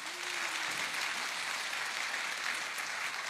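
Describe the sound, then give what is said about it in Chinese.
Steady applause from a crowd, a dense, even wash of clapping that holds at the same loudness for a few seconds without any voices. “我好佩服，给他们掌声吧。”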